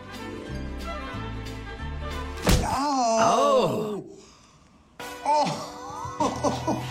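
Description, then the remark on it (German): A single sharp thud of a hammer striking a hand during a hammer test, then a loud, wavering groan of pain that fades, a brief pause, and a second strained groan. “Der Hammertest.”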